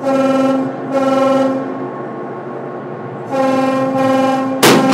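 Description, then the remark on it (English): A tugboat horn, sounded to warn that a tow line is about to be shot over the bow of the freighter Sea Trader, blares in long, loud, low-pitched blasts with a rich, buzzing tone, sounding several times in a row before a sudden harsh burst of noise cuts in at the end. No one speaks. “With the Coast Guard out of the way, the tugboat sounds its horn to let everyone know the shot is coming.”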